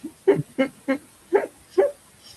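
Puppies yap in five quick, high-pitched barks at a steady rhythm, with a slightly whiny, whimpering edge and no talking over them.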